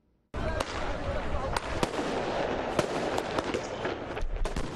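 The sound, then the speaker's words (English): Sharp fireworks bangs crack out repeatedly over a dense, roaring crowd, several loud pops at irregular intervals amid constant shouting and street noise, as protesters launch fireworks at Lebanese security forces during night-time clashes in Beirut on a Wednesday. “Protesters launched fireworks at Lebanese security forces as night fell Wednesday evening during the clashes in Beirut.”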